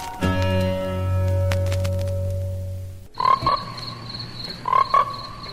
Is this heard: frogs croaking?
yes